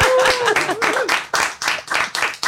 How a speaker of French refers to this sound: On va quand même t'applaudir un peu quand même. C'est pas évident.